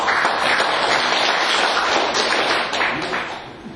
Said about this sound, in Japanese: 拍手。